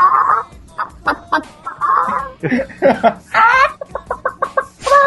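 Chicken clucking, loud: a string of uneven squawks and clucks that ends in a quick rhythmic run of short, sharp clucks.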